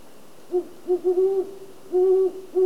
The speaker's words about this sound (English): That's a great horned owl.